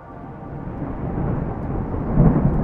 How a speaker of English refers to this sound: A fresh crack of lightning scorched the sky, and the heavens opened. Rain lashed against the thick glass of Harper's viewport.